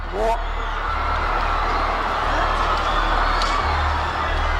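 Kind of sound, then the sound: crowd, crowd booing and shouting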